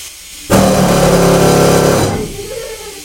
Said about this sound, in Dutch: Boormachine!